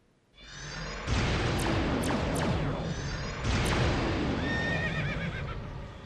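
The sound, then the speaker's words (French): A horse whinnies loudly over a busy, rushing background while hooves clip-clop steadily underneath, the neighing rising sharply several times before trailing off. “Il y a un cheval dans Star Wars.”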